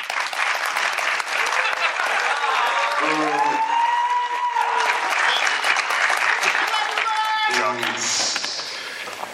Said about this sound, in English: Everyone please give a round of applause